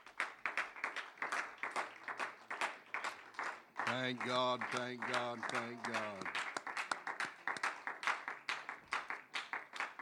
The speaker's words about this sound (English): Give the Lord a hand clap of praise before you're seated tonight.